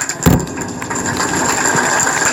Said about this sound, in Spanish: Fuerte el aplauso, sí.